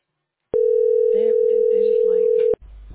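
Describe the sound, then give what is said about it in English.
A telephone ringback tone sounds as one steady, loud hum lasting about two seconds, with faint voices murmuring underneath, then it cuts off into low background noise. “It's ringing.”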